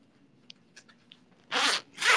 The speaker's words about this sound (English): The zipper is stuck. There you go.